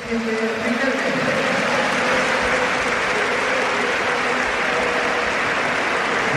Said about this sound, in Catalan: Doncs aviam, marxava Riquelme, aplaudit pel públic, i Stuani li ha dit que s'esperi.